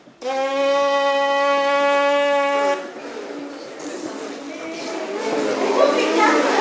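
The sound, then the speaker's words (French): A loud, steady lip buzz, as used to make a sound through a brass instrument mouthpiece, demonstrated as an exercise, holds one rich, reedy pitch for about two and a half seconds, then breaks into a rougher, noisier sputter that continues to the end. “Voilà, il faut faire le pétard, si on veut.”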